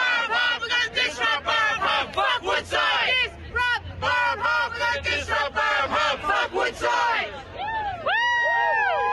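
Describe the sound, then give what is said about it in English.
A protest crowd of environmental advocacy groups gathered outside the Crown Casino in Perth, Australia, during Woodside's annual general meeting, chants and shouts loudly and continuously, voices overlapping in rhythmic bursts, with a low steady rumble underneath and a few rising whoops near the end. “Some of Australia's biggest environmental advocacy groups are gathered outside the Crown Casino here today, where Woodside's annual general meeting is taking place.”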